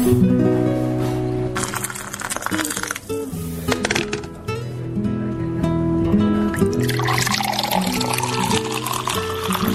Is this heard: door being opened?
no